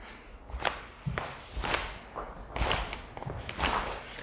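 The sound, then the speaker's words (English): Hands slap and brush against a thigh in a steady, repeated rhythm, roughly two strikes per second, played loud. The sharp slaps carry a soft swishing graze, with no voices. “It's not about making a lot of thumping noise. It's about feeling and just grazing off your thigh, you know?”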